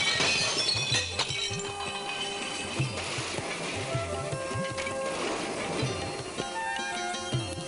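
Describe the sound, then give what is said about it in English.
Utensils and brass and metal dishes piled in a hand cart crash and clatter down as the cart collapses, a long, dense jumble with bright clinks and rings scattered throughout and a few sharper bangs standing out, loud and continuous for several seconds. “Various kinds of utensils and brass and metal dishes had been piled up in the hand cart, and they all fell down with a great noise.”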